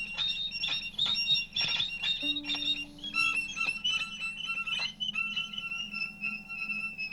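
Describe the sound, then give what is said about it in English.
A dense stream of high electronic amateur radio signal beeps and warbling tones, several overlapping pitches chirping rapidly, with a lower steady tone briefly sounding midway; no voices, just continuous signal-like bleeping throughout. “Beep, beep, beep, beep, beep, beep, beep, beep, beep, beep.”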